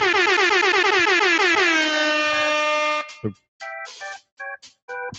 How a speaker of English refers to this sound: I have people that don't like when I use the air horn. There's this like fisherman that like goes, I don't like when you use the air horn on your podcast. Well, here's my response.